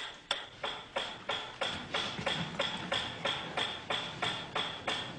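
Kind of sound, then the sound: machine, metronome ticking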